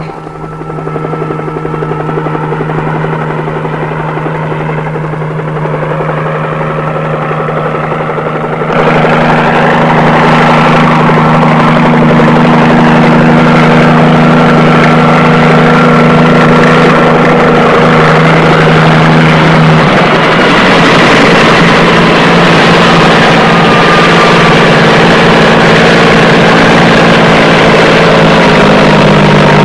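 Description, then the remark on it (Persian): A helicopter engine drones loudly and steadily with a low rotor hum, growing louder and fuller partway through as it approaches, then holding a constant roar as if settling down to land. “هی اونا هاشان هلیکوپتر دارن میان.”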